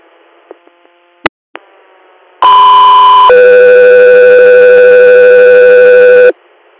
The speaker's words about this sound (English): Guthrie Air, stand by for tones.